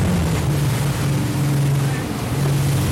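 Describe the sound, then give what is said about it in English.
A motorboat's inboard engine drones steadily, its low hum shifting slightly in pitch as the boat turns over the shoulder on its outbound run, the engine dragged so it keeps momentum, with wind and water noise washing over it. “Turn and drag that inboard engine so it sucks you back down and you don't really lose momentum going outbound.”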